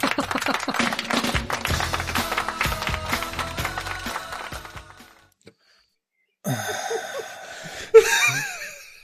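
A burst of dense, crackling applause fills the first few seconds, then stops abruptly. After a short silence, laughter and whooping voices follow, with one bright, rising whoop standing out.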